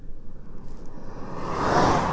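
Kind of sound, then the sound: vehicle, car driving past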